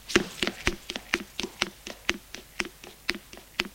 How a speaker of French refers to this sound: Frappe à la porte.